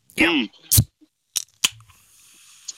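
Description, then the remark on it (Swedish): A brief voice, then a few sharp clicks and a crisp pop as the tab of a can of raspberry soda is pulled, followed by a soft, fading hiss of escaping fizz. “Och så pyset. Eller hur, man måste ha pyset.”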